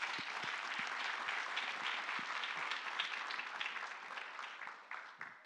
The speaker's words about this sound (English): Yeah, let's clap for him.